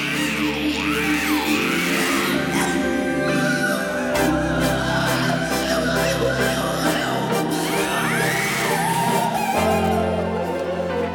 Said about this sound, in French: Il n'y a pas beaucoup de paroles dans cette chanson. Non, il n'y a que de l'air. Et des cris. C'est incroyable. C'est magnifique.